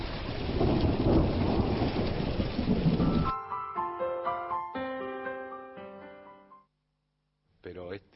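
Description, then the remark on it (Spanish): A heavy thunderstorm roars for about three seconds, dense rain hiss over deep rumbling thunder, then cuts abruptly to soft melodic notes, a brief silence, and a short burst of voice. “Acá está viniendo la tormenta. Mira lo que es la tormenta.”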